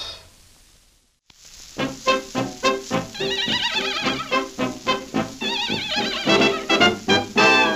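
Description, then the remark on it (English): A horse neighs and whinnies in a string of loud, quavering bursts, with a steady musical backing running beneath after a brief silent gap at the start. “A horse ain't got much sense.”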